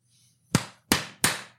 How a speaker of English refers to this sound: You gonna do your clap thing?